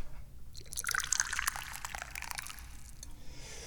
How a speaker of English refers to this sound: I am the chairman of the Dubious Goals Committee, which means it's time for me to pour some tea.